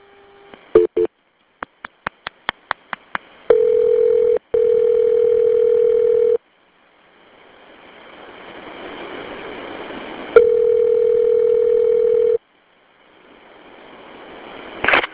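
A rapid series of dialing beeps, then a steady ringback tone as an emergency call about a plane crash is transferred to Lawrence, with a hissy pause between two long rings. No one speaks.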